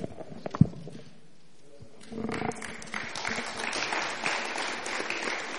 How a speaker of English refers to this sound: I think all our moderators and presenters need another round of applause. Let's appreciate them.